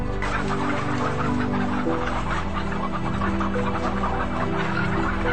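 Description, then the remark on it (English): Dense, continuous clucking from many hens crammed inside battery cages in a laying warehouse, a busy overlapping chatter with a steady low hum of machinery or ventilation beneath, no voices. “For hens, they live in a laying warehouse, crammed inside so-called battery cages.”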